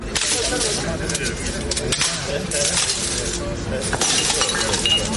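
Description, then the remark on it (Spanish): DJs and nightlife workers smash records over and over in protest at a camp outside the Palau de la Generalitat in Valencia, sharp cracks and shattering snaps breaking out irregularly above a steady murmur of voices and crowd noise. “Ya no son restauradores rompiendo platos, son DJs y trabajadores del ocio nocturno rompiendo discos en señal de protesta.”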